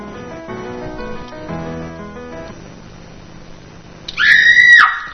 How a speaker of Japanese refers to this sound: 港に響き渡る少女の悲鳴。